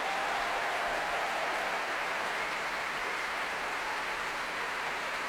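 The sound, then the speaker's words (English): The audience in the Royal Albert Hall gives sustained applause for a choir, a dense, steady wash of clapping with cheering mixed in, continuous and fairly loud throughout with no voices speaking over it. “A huge cheer going around the Royal Albert Hall for the Choir of the Enlightenment.”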